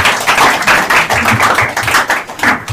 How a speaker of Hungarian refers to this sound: és akkor most, hogyha megengedik, akkor csak egy ilyen rövid tapsügyben olyan jó lenne.